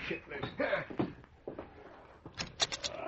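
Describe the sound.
A door is opened, with a few short rattling, scraping bursts and a brighter clatter near the end, while muffled voices murmur underneath.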